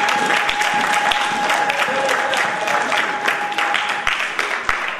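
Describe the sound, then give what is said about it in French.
A crowd applauds steadily for several seconds, dense overlapping claps forming a loud, continuous wash of sound with a faint sustained tone running underneath. “Est-ce que quelqu'un peut donner une main d'acclamation pour toi?”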